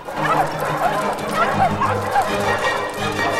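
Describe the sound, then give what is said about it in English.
A pack of dogs barks in a frantic, overlapping clamor, sharp yaps tumbling over one another against a busy, steady background of motion, as the dogs pour into a warehouse chasing two men. “Tide of dogs pours into the warehouse.”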